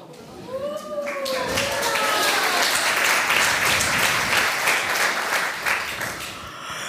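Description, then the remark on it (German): An audience at the WDR5 10th anniversary celebration bursts into sustained applause welcoming health minister Ulla Schmidt, a dense crackle of many hands clapping that swells quickly and holds steady, with a few high whistles or cheers rising over it at the start. “Ja, ja, klatschen Sie ruhig.”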